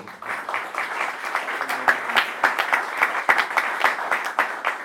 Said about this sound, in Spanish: No sé si caen aplausos aquí, pero yo aplaudo.